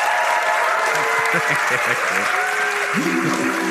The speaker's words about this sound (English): Please, a round of applause for my brilliant guest